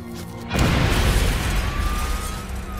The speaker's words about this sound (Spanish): La explosión hirió de gravedad al doctor Epstein.